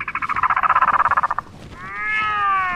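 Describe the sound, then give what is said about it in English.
An albatross, one of the Antarctic's cold-weather animals, calls: a loud, rapid rattling clatter of about twenty quick pulses, then a drawn-out, wavering nasal wail that rises and falls. No one speaks. “Like the albatross.”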